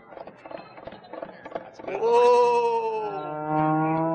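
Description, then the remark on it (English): Rhythmic clip-clop tapping gives way to a loud human voice imitating a horse's whinny as a cowboy riding in on his horse. The drawn-out, wavering call sounds more like a bleating sheep or goat. “I'm going to ride in on my horse. Oh, so here I come, fella.”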